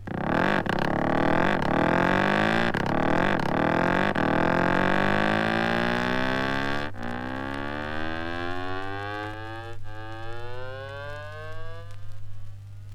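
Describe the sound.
An instrument imitates a motorcycle starting up: a few quick buzzing revs, then a long, steadily rising engine-like whine, loud with no voices.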